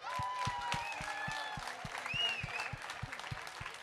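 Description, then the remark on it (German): An audience applauds the guests at the end of a live talk, steadily with dense clapping, a few sharper individual claps standing out, along with scattered cheers and whistles from the crowd. “bitte nochmal einen ganz herzlichen Applaus an Lara Martin und Dani Schaub”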